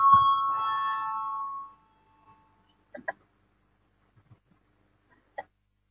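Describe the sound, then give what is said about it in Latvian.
A parliament voting bell rings out loud for nearly two seconds with a steady electronic tone, called as members vote on a proposal, then cuts off, leaving quiet with a few faint clicks and knocks. “Lūdzu, zvanu balsosim par 4. deputātas Sprūdes priekšlikumu.”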